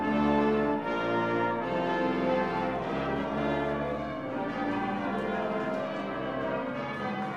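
wedding church bells ringing

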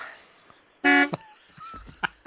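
car horn honking

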